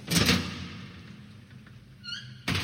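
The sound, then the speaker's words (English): A heavy morgue door thuds open with a solid knock, followed by a brief high creak of the hinges and a second dull thump as it settles, fairly loud with no voices. “The morgue door swung open.”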